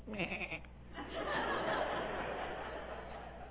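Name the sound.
sheep bleating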